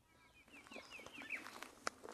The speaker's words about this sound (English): Brighton Recreation Area is just one of many state parks in Michigan. Walking down its forested trails, you can hear the chirps of birds high in the trees, and you can smell the sweetness of cedar and the charcoal scent of bonfires.